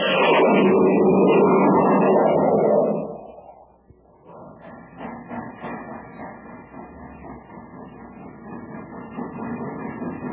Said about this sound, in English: Say, did you hear that, gang? That was the Terra Express train trying to get up speed on ordinary fuel. Not very speedy, was it?